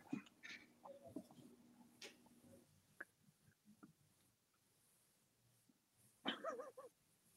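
A dog barks a few times: scattered yelps near the start, then a louder, quick cluster of barks toward the end, with quiet stretches in between and no talking.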